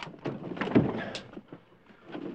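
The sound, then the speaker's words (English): A stuck closet door is being forced open, with a series of heavy thuds, rattles and strained creaks that swell and fade, fairly loud, with no talking. “Try to open the door.”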